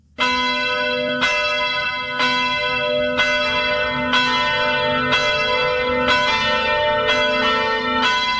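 Church bells ring loudly and steadily, struck roughly once per second with rich overlapping tones that linger and blend, continuing without pause for several seconds with no voices.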